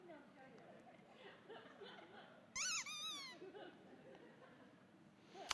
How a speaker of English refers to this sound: This is a rooster, if you use your imagination.